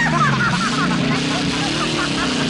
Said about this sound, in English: Flames shoot out of Leo's car's exhaust.